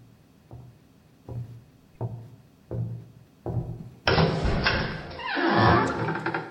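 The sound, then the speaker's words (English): Five steady, hollow knocks on the front door of a house, spaced about a second apart, then a sudden burst of loud, rushing noise that carries on to the end. “Our apologies for all the knocking.”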